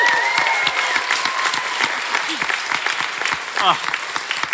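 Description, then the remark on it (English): An audience at the Brisbane Science Festival applauds Dr. Jessie Christensen with steady, dense clapping for several seconds, a sustained whistle-like tone riding over it early on and a brief cheer rising near the end. “Please give it up for Dr. Jessie Christensen.”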